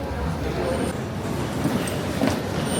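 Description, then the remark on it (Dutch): Steady rumble of a metro train in motion in Milan, a continuous low roar with faint rattling and brief squeaks, while indistinct voices murmur in the background. “We gaan met de metro. De metro in Milaan halen.”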